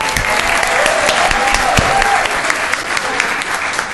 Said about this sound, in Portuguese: Então, acho que a gente deveria registrar isso e dar uma salva de palmas para ela, né?